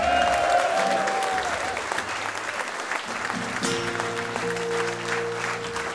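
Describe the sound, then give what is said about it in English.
A crowd applauds loudly and steadily as a band's bass player is introduced, with cheers and a whistle near the start, and sustained bass notes come in under the clapping about halfway through. “The shoulder bones of the band, ladies and gentlemen, let's have a round of applause for, on the bass,”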